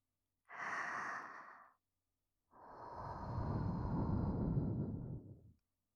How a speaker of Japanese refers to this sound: お耳に吐息をかけられるの、気持ちいいね。